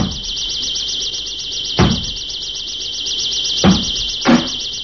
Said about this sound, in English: What's going on? Sounds like somebody's breaking down your door. I'd better go and find out.